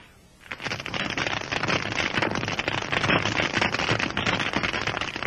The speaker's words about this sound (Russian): Миллионы их живут на каменистом морском дне. Они такие маленькие, что их даже трудно заметить невооруженным глазом. Однако они принадлежат к числу самых шумливых обитателей моря. Гидрофон улавливает их громкую трескотню.